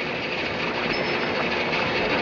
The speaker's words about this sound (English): Gee, I can't hear myself talk with that washing machine going.